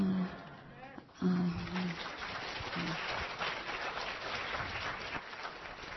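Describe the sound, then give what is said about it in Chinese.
At a church service, the audience breaks into steady, sustained applause lasting several seconds to welcome the pastor's wife, back for the first time since her surgery. The applause follows a brief moment of someone speaking at the start. “我们来掌声欢迎她，感谢主。”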